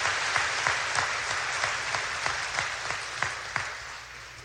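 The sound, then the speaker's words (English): An audience at a scholarship ceremony applauds the Fort Recovery Alumni Association scholarship recipients, a dense wash of clapping with a few louder individual claps standing out at a quick, irregular rhythm. No one speaks. “Please join me in giving the Fort Recovery Alumni Association scholarship recipients a round of applause.”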